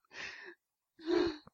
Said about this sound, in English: The laughing's making me cough.